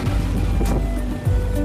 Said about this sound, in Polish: To jest tuk-tuk. To taki malutki samochodzik, przypominający motor z dachem. Bardzo szybko i przyjemnie można nim podróżować.